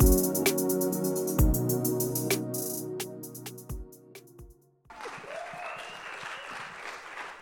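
A sustained musical tone with sharp percussive hits fades out, then an audience breaks into steady, dense applause that continues at moderate loudness to the end.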